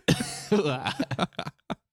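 A wet, phlegmy coughing fit: a harsh opening burst, a strained throaty rasp, then a rapid string of shorter coughs and one final hack, fairly loud, with no talking.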